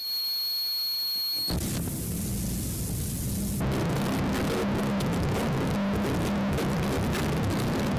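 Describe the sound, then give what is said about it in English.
Noise music that opens on a brief, sparse stretch with thin high tones, then a heavy low rumble surges in and swells into a dense, loud wall of harsh distortion filling the rest. “So let's listen to the next bit, which is at 9:29, where you've just got these kind of peaceful bits and then this wave of distortion.”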